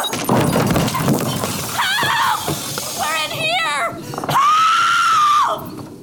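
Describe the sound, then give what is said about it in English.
Objects are thrown around and crash and smash in a burst of clattering impacts, followed by shrill, strained screams and shouting that rise over the noise, ending in one long sustained yell. “Throwing things around like some irate toddler?”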